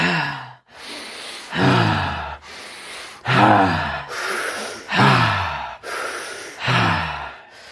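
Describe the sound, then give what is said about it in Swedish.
Heavy, deep breathing repeats in a steady rhythm, each loud airy inhale followed by a voiced, sighing exhale, with no talking, about six cycles in a row, as deep breaths taken during a guided exercise session. “Andas djupa fina andetag.”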